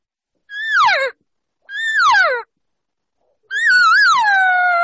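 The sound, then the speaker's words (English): A person imitates a cow's call inviting a bull to come her way, with three loud, high whining mews: two short ones sliding downward, then a longer wavering call whose pitch drops off at the end. No talking. “If I'm asking the bull to come over to me as I move up, I am now going to change my tone or the cadence of the call, what a cow will do when she's inviting or asking the bull to come her way.”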